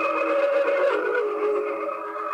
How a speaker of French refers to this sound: C'est un synth. Il y a des effets, là-dessus, tu verras. Il y a comme des reverse, là.